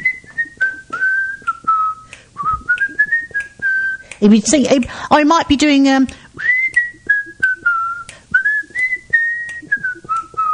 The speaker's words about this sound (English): People don't whistle anymore, do they? I haven't heard anyone whistling for years.